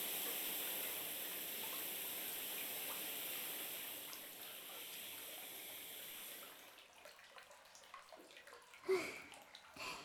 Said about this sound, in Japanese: それではシャワーをかけたところで、今度はタオルにたっぷりと泡を作りまして、そしたら泡まみれにして、では参りますね。